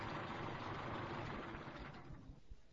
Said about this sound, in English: Wait a minute. Let me turn off my engine.